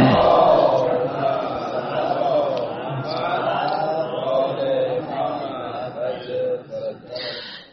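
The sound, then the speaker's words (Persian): A crowd of voices recites a salawat blessing together in a steady, rhythmic murmur, many people chanting in unison for several seconds before the sound trails off. “یه صلواتی بفرستیم.”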